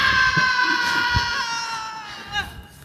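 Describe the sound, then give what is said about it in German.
A single long, piercing scream from a film clip being played rings out, holding a shrill, strained pitch for a couple of seconds before wavering and breaking downward at the end. “Aber gut, dass man es nochmal schön, das Arg nochmal so, man hört es ja nicht genug schreien.”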